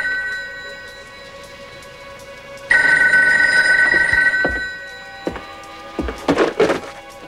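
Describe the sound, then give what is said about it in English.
A telephone bell rings in one loud, sustained burst in Lynn's empty apartment after a quiet, hushed room tone, then fades, followed by a few dull thumps and knocks. “They look around Lynn's empty apartment and Bronson goes to the phone.”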